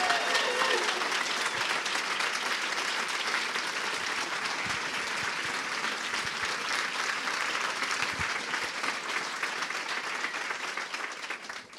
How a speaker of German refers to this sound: Ich finde, der Applaus gerade war ein bisschen zu verhalten. Wollen wir nicht einfach nochmal Caroline Wahl willkommen heißen?